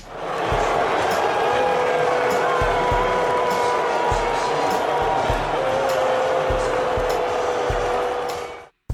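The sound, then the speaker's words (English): A huge stadium crowd boos in a loud, sustained roar of voices that holds for the whole stretch, with dull low thumps recurring at a steady beat underneath, then it cuts off abruptly. “That was a whole stadium of people booing, and I was making a joke.”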